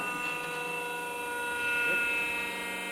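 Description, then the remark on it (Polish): A hydraulic car lift at the Automobil Klub Podlaski runs with a steady, droning motor whine, its layered humming tones holding constant for the full three seconds and swelling slightly in loudness partway through. “To jest podnośnik hydrauliczny.”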